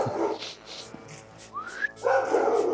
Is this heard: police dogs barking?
yes